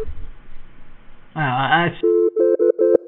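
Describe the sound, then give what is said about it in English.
A brief voice gives way to a BT voicemail answering tone: a steady mid-pitched electronic beep repeating in about five short, evenly spaced bursts, clear. “Oh, please leave be a message available. After the tone.”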